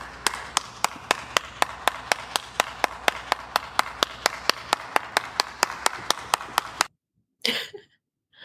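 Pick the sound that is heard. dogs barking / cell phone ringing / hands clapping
hands clapping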